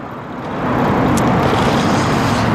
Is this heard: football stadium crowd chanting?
no